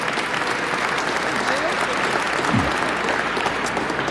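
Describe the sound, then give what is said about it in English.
An audience breaks into steady applause, a dense wash of many hands clapping at once that holds at an even, fairly loud level from start to finish. “Give her some if you want to applaud.”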